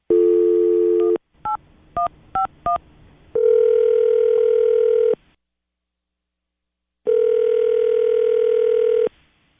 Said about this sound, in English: It means while the phone rings, I'm going to think of something to say.